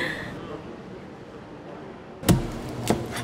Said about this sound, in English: So what you're hearing in the chopping is taking off what they call the crown bone, which is where the head would connect. If you're hearing a swooshing or anything of that nature, that would be the actual stripping of the skin.